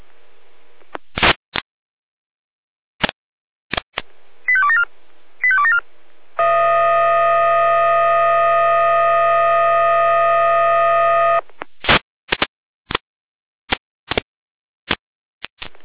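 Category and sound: signal or alarm, fire brigade alert tones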